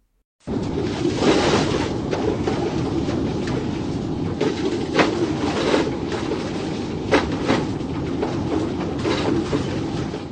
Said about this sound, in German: Mit einem großen Wohnmobil auf diesen super ruckeligen Straßen zu fahren